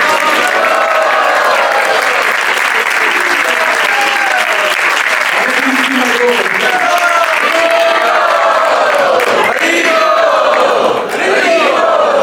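A large audience at the Pandit Center applauds a devotee loudly and steadily for about twelve seconds, dense clapping mixed with scattered cheers and whoops from the crowd.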